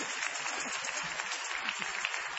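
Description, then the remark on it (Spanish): A group of children clapping their hands together as a greeting during a radio show, a steady, dense patter of many overlapping claps that stays fairly soft and even throughout, with no voices standing out. “¡Saluden con las palmas, niños!”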